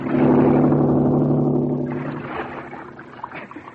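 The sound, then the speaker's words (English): An outboard motorboat engine from a lodge roars loudly with a steady droning hum, then fades and becomes rougher, mixed with splashing churn. “Look, from the lodge, an outboard motorboat.”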